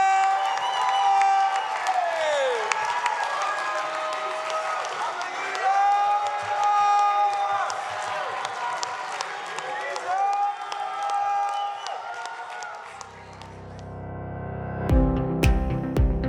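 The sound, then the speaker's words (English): A church audience at Threshold Church, standing, shouts and cheers together as a way of saying amen: loud overlapping voices with rising whoops and yells sustained for about thirteen seconds, then giving way to a short burst of different sound at the end. “I know we shouted earlier, but just as a way of saying amen, let's just lift up a shout.”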